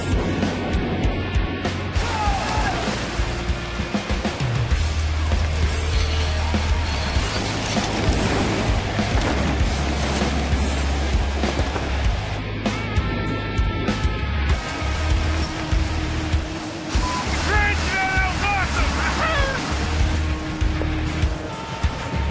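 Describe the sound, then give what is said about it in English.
Wind roars steadily through the open doors of a Hercules aircraft as cargo is thrown out the back, a loud, unbroken rush layered over a deep droning engine rumble, with brief higher tonal whines rising out of the noise now and then. “The doors open, the wind going, guys screaming.”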